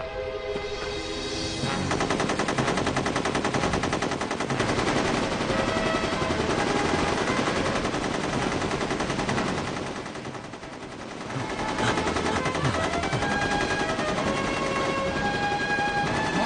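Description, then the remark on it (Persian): Sustained rapid gunfire fills the scene, dense bursts of automatic shots crackling continuously and loudly for over fifteen seconds, with only a brief dip in intensity midway before the barrage resumes. “فقط هر موقع که من شروع کردم به تیراندازی تو هم شروع کن.”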